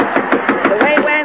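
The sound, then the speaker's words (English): A quick run of about seven sharp knocks on the door of the Texaco canteen by Roland Young, evenly spaced and fairly loud, with voices murmuring faintly underneath. “Say, somebody's at the door.”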